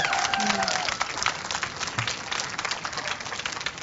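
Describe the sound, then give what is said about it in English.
An audience applauds a movie steadily, dense overlapping clapping filling the whole clip at a fairly even level, with a few voices and a brief cheer rising through it near the start. “Big applause from the audience for that movie, too.”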